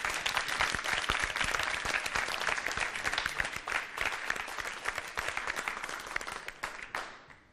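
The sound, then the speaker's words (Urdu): Loud, sustained applause from an audience at the final of a televised team contest, cheering the winning Team A, with dense overlapping claps rolling steadily for several seconds before tapering off at the end. “حوصلہ افزائی ہو جائے زوردار تالیوں کے ذریعے.”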